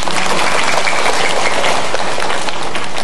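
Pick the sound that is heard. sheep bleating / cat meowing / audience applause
audience applause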